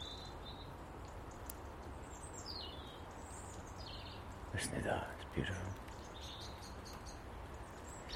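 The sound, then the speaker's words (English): On a mild morning, a blackbird sings fluting dawn-chorus phrases while another blackbird off to the left gives repeated alarm calls; a person briefly speaks softly midway over steady outdoor background noise. “One blackbird singing a dawn chorus, another blackbird over to the left calling an alarm.”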